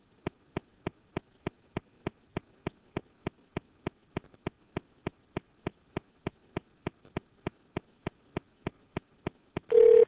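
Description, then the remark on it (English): A phone line clicks steadily and rapidly, dozens of evenly spaced ticks while the call connects, ending in a brief steady electronic tone. No one speaks. “we wouldn't be normally calling Eastern this late”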